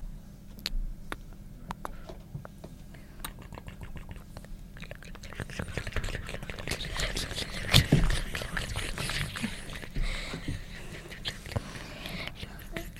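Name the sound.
river water flowing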